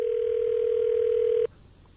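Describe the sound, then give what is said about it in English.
A telephone ring tone sounds as a steady, unwavering mid-pitched hum for about a second and a half, then cuts off abruptly, leaving only faint background noise. “Okay, let's just give it 40 more rings.”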